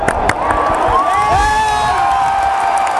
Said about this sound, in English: So I'm gonna give you a little cheer action here.